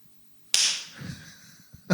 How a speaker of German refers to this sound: Wir klatschen jetzt. Wir müssen so klatschen.